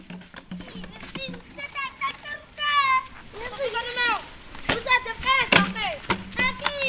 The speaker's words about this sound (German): Kinder spielen Fußball auf einer der wenigen Flächen, die gerade nicht von Wasser oder Müll bedeckt sind. Ihr Viertel Munyawa gehört zu den ärmsten der Stadt Beira und steht regelmäßig unter Wasser.